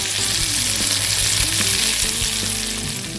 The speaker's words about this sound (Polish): Po ściągnięciu krewetek na tą samą patelnię lądują wcześniej umyte pomidory. Po wrzuceniu ich powinniśmy je od razu posolić. Z racji, że smażymy na maśle, pomidorki powinny się pryczyć na wolnym ogniu, aż zaczną pękać i puszczać soki.